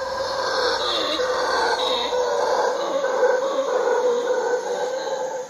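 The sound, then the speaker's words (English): Howler monkeys roar in a continuous, droning chorus at night at a small hotel in Dominical, a surf town on the Pacific coast, a deep rumbling drone that swells and fades slightly over a steady hiss of insects. “People love the beach, sure, but she says they also love the sounds at night of the howler monkeys. She's recorded them.”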